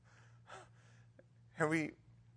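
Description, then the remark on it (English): A single sharp, voiced gasp bursts out loud after a couple of soft breathy sounds, over a faint steady low hum. “And we gasp and we worship and we laugh.”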